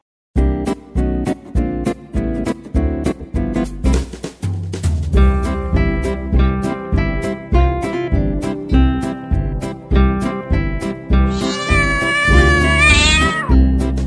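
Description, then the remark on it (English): A cat meows over a bouncy, steady-beat instrumental tune, with a long, rising-and-falling meow standing out clearly near the end. “Come, come, cat, you're my pet, you say meow, meow, meow.”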